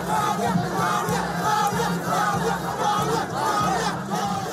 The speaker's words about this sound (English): Huge crowds of Liberians gather at the party headquarters to celebrate George Weah's presidential win.